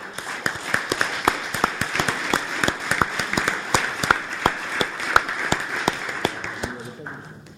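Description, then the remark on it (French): An audience applauds a colleague who is to be decorated with the Ordre National du Mérite, steadily for several seconds, a dense wash of many hands clapping with a few sharper, louder claps standing out, then fading out near the end. “Donc, vous êtes évidemment toutes et tous invités le 26 avril au soir pour la décoration de notre collègue, qu'on peut applaudir, je pense.”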